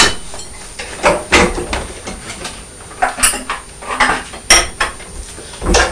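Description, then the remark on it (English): Pots and pans clatter and knock in a sink as a mother washes them, a series of irregular metallic clanks and scrapes, with a faint background of running or sloshing water and no talking. “Mummy's still washing some pots, isn't she?”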